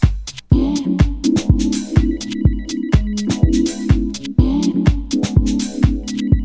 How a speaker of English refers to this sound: Come on, baby, it's me. Pick up the phone, baby, pick up the phone. What, you don't want me no more?